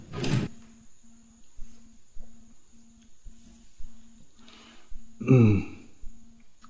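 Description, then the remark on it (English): The second drawer slides open with a short scraping rumble to fetch a silk chadar, then another louder scrape a few seconds later, over a faint steady pulsing hum. “I have a silk chadar in the second drawer, which you can kindly give me.”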